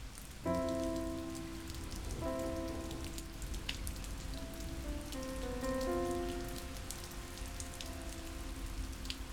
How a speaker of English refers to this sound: It's raining harder now